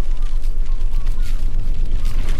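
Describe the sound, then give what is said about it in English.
A volcanic eruption rumbles with a deep, continuous roar, while dense crackling and sharp pops burst across it at a steady, loud level throughout. “We've got the pyroclastic density currents that might be coming down the side of the volcano, and that can add like a deep rumbling noise, lots of crackling noise as the rocks inside are crashing into each other.”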